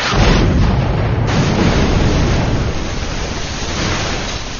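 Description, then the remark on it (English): Heavy ship's cannon fire from a gun deck at an enemy ship booms out in a loud, continuous barrage, with deep rumbling blasts and crackling debris blending into a dense roar that holds steady throughout. “The second cannon stridently exploded, its lead balls going down into the belly of the enemy ship, punching through the deck and into the powder magazine.”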